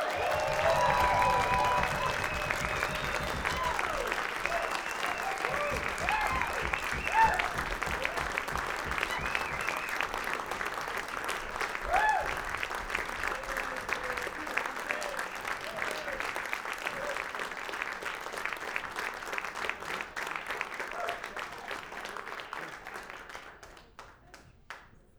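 A crowd breaks into sustained, dense applause welcoming a band to the stage, hands clapping loudly and steadily for over twenty seconds before the noise thins and fades out at the end.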